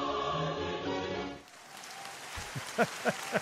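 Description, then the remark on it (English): A sustained, harmonic sung tone gives way to dense, crackling applause, a steady patter of many hands, with a few louder, lower thumps near the end. “Can I have a hallelujah and then some applause?”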